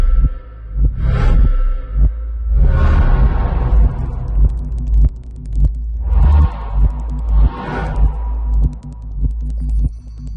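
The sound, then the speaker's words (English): Scattered, crackling clicks flicker over a heavy, throbbing low rumble, with several swelling whooshes rising and fading in waves. No one speaks. “Synapses firing. These are things that we want to make an audio analog of. So there's a lot of clicking sounds.”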